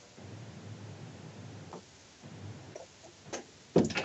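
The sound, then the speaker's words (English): A door upstairs shuts with a solid thud near the end, after a few seconds of low rumbling background noise and faint scattered ticks and rustles. “I just closed the door to make sure there's certain things I don't want the people to hear”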